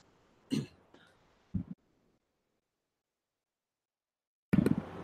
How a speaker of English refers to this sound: Pardon the dead air, had to cough.